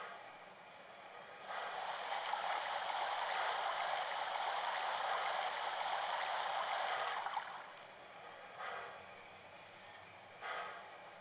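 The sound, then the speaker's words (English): A steady rush of churning water, like a boat pushing through the surface, swells for several seconds and then fades, followed by two short splashy surges. No one speaks. “Bring that boat over.”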